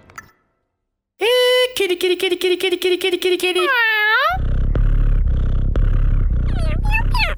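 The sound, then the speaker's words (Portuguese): High, whiny kitten-like meows in a loud meme track: a long held cry, a fast run of rhythmic stuttering mews, then swooping cries over a dense, noisy background. “Fala sério, é um meme. Um meme de um gatinho.”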